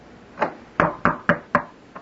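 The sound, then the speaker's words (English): Six sharp knocks on a door, one soft tap followed by a steady run of four firm raps and a lighter final knock, clear with no voices. “on my door.”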